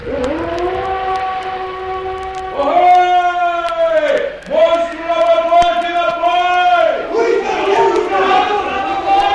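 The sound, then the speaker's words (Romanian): A loud, drawn-out whale-like bellow of a sea monster, heard from aboard a ship, rises and swells in several long, wavering blasts, deep and tonal, booming with a rough murmur underneath. “Ai auzit multe balene mugind? Multe, capitane, dar niciuna atât de tare ca asta.”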